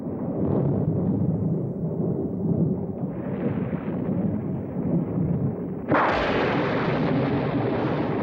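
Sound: thunder rumbling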